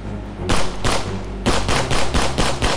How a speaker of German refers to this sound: Es fallen Schüsse.